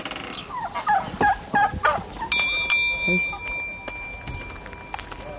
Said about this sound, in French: Je l'avais habité sous mes lapins et puis maintenant je vais soigner mes poulets, ils en ont de l'eau.